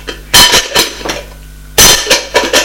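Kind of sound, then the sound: household object, pots and pans clattering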